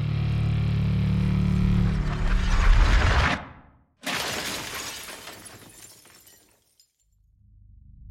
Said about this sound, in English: She ran as fast as she could and crashed through the window at the end of the hallway.